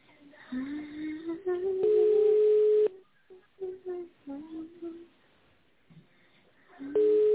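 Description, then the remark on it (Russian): Over a thin telephone line, a steady low-pitched ringback tone sounds for about a second while waiting for an answer from the company Svetka, then a voice speaks. The tone returns briefly at the end, loud and unwavering. “Наберите в тоновом режиме номер абонента или дождитесь ответа секретаря.”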